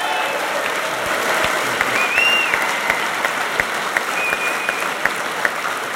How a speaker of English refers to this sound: A round of applause, Keith and Gary, everyone.